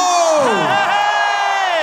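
A large arena concert audience cheers, whoops and applauds loudly and continuously, many voices rising and falling together in a dense, sustained roar, with no single speaker standing out.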